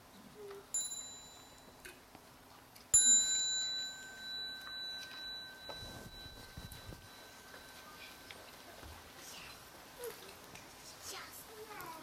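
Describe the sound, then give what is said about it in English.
A small meditation bell is struck twice, first a light tap, then a fuller strike whose clear tone rings and slowly fades over several seconds in quiet surroundings. “So when you hear the small bell, you may like to stand up and bow to the Sangha before you go out and continue.”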